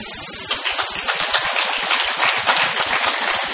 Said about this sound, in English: how many of you have had more than 30 years, by applause, 30 years in Al-Anon, 30 years or more? Applaud. Wow.